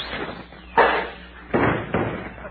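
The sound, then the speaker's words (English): A cuspidor thrown at a man who is getting away hits with a heavy thud, followed by two more dull impacts in quick succession, each sharp at onset and trailing off briefly, with no voices. “I'll throw a cuspidor at him.”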